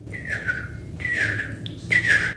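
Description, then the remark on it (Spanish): Songbirds with red and orange plumage, several perched on a branch in a landscape of tall, old trees, sing in the distance: three clear, whistled phrases, each a bright tone that dips and wavers, rising out of a steady low rumble with short gaps between them. “Estoy escuchando el canto de unos pájaros.”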